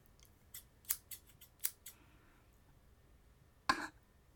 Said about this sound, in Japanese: こんにゃくをちぎっちゃいます。縦に、あ、もうハサミで切っちゃおうか。